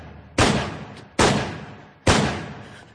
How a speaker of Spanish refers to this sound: Cuando Lennon se disponía a entrar en el edificio, recibió 5 disparos por la espalda.